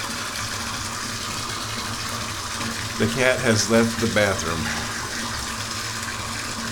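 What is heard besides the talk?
water running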